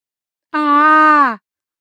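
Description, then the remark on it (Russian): A single loud cry of pain from a leg cramp, a sustained voiced wail just under a second long, holding a steady pitch before dropping slightly as it cuts off, with silence around it. “На мой крик с кухни прибежала Женька.”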